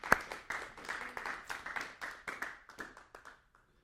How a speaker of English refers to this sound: And I think that deserves a hand clap of praise for His goodness.